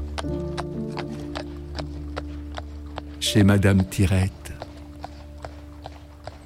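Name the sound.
horse hooves clip-clopping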